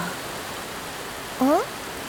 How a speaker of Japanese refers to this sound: これって、ゲリラ豪雨だよね。すぐに止むかな。全然止む気配がないよね。髪も服もずぶ濡れ。私の完璧な美貌が、まったく最悪だね。どこか雨宿りできるところは。